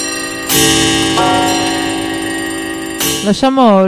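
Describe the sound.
Two loud, resonant bell strikes, one after another, each ringing out with a long sustained shimmer. A brief wavering, voice-like sound follows at the very end.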